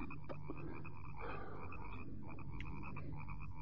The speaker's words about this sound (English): Must be millions of them in those marshes. Hmm? The frogs.